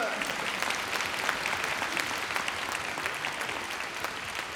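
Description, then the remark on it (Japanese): Steady audience applause fills the whole stretch, a dense wash of many hands clapping at an even, sustained level with no pauses and no voices standing out. “お兄さんにも拍手。”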